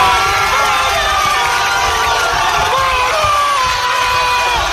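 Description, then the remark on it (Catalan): Unionistes football players in their dressing room cheering and shouting in euphoria as they are drawn against Barça, a dense, loud, continuous roar of overlapping voices with whoops and high-pitched yells sustained throughout. “Els jugadors de l'Unionistes s'han quedat a seguir el sorteig al vestidor i han rebut l'emparellament amb el Barça amb aquest esclat d'eufòria.”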